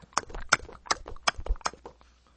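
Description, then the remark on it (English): A voice imitates horse hooves with mouth clicks, a steady clip-clop of about a dozen sharp pops alternating loud and soft, fading out near the end. “I used to be able to do that really well when I was a kid. With a toy horse, anyway. Everyone else went, click, click, click.”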